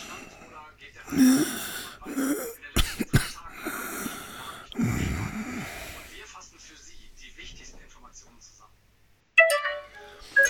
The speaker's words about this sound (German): Was ist denn das jetzt? Oh, Telefon. Wo ist denn?